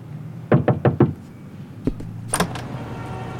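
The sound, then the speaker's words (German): Four quick knocks on a door, then a dull thud and a sharp latch click as the door is opened, with no one speaking. “Als mir die Tür geöffnet wurde, musste ich feststellen, dass die einen der Scheintoten vergessen hatten.”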